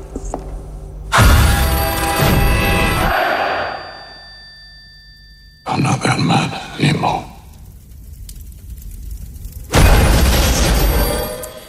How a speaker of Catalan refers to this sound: Com sempre, explosions, allò...